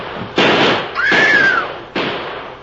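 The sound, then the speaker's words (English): Three sharp gunshots crack out in quick succession, each with a loud burst and short decaying tail, and a whining ricochet streaks through after the second shot. No voices. “Drill him, shoot him.”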